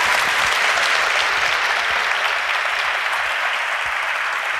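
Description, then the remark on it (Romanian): Sustained audience applause for Horia Roman Patapievici fills the whole stretch, a dense, steady wash of many hands clapping at an even, fairly loud level with no voices standing out. “Aplauze!”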